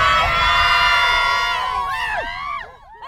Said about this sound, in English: Who's tough on land and sea? Sirens! Who's gonna get the D? Sirens! Let me hear you scream!